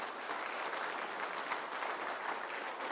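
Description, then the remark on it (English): An audience claps steadily for about three seconds for the speaker's wife of 59 years, a dense, even patter of many hands at a consistent loudness with no voices standing out. “Doesn't she deserve a little applause?”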